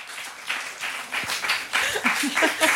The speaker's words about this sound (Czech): teď cítíš toho potlesku, jsem se předběhla v tom pozdravení.